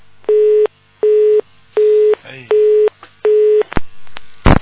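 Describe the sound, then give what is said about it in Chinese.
A telephone busy tone beeps five times at a steady pitch, evenly spaced and fairly loud, after a phoned-in call is hung up. A brief muffled voice slips in between beeps, and sharp clicks of handling noise close it out. “就这种弟子打进电话来，师父讲他几句就挂电话了，你们听见了没有？”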